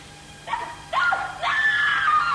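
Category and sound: human body sound, woman screaming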